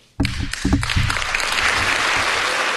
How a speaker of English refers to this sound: That's the MacBook Air team applauding right there.